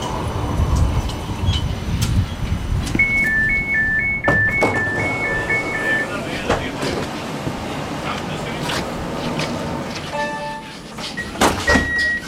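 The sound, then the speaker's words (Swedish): A tram in Lund rolls in with a steady low rumble, a two-tone chime repeating for a few seconds, then clunks and a short electronic door signal as it stops. Faint voices murmur in the background. “Spårvagnen tar dig från de ringlande medeltidsgatorna upp till ett kluster av futuristiska forskningsanläggningar.”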